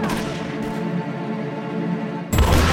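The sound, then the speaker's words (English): Gunfire somewhere down the street in Whiskey Flats in the late afternoon: a steady tonal hum hangs in the air, then a sudden loud, sharp burst of a shot breaks in near the end, with no talking. “Gunfire erupted somewhere down the street, filling the late afternoon air of Whiskey Flats with the sounds of violence once more.”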